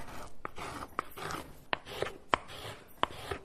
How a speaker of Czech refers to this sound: A my tady v dílně v houslařské škole můžeme naše povídání proložit autentickým zvukem hoblování vrchní desky houslí.